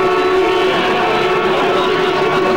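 A single long horn honk, loud and steady, holding one bright, buzzing tone for a couple of seconds with no break and no voices.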